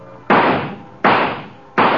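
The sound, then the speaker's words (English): Three sharp rifle shots at a shooting gallery, aimed at moving bird targets, evenly spaced about three-quarters of a second apart, each a loud crack with a short ringing tail, with no voices. “3 shots for quarter. Knock the birdies down.”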